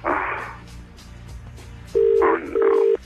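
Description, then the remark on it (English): Telephone tones sound as a morning phone call to Will Young connects at 7:20: two loud, steady electronic beeps in quick succession, following a brief burst of muffled noise and a quiet stretch. “Because we rang him this morning as well.”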